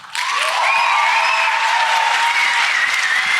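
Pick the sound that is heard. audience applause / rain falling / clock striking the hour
audience applause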